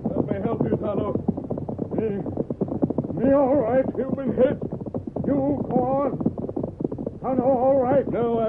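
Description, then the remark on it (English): Horse hooves clip-clop steadily in the background as a rider calls for a horse named Silver to stop, voices calling out loudly over them, the hoofbeats partly buried beneath the shouting. “Stop your horse!”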